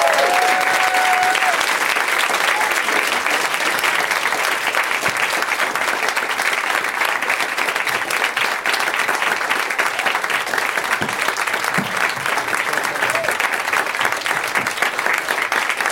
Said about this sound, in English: I love you guys because the longer it takes them to come out and get in their seats, the longer you clap, and it just seems insanely enthusiastic.